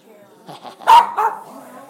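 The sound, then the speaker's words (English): Dogs bark, two loud sharp barks in quick succession near the middle, with quieter yips and murmuring voices before and after. “I'm cutting through these dogs.”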